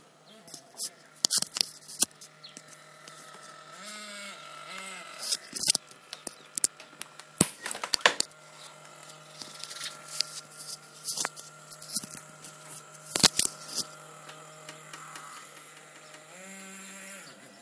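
Pots being washed: irregular metallic clinks and clattering knocks over a steady low hum, with sharper bursts of clanking now and then and no talking.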